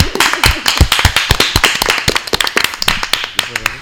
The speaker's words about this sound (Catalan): Doncs vinga, un aplaudiment, no?, que soni.